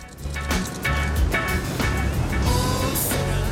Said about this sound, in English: Stanley makes a start on his hole while Mr. Sir goes back to his truck and drives away.